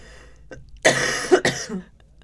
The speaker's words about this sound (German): Du Arme. Ich habe gar keinen Husten eigentlich.